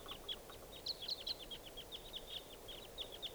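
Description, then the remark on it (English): A flock of wild birds calling in flight gives a steady run of short, high chirping calls, a dozen or more in quick succession, fairly faint over a soft background hiss, with no talking. “Both birds here, as other wild birds approach.”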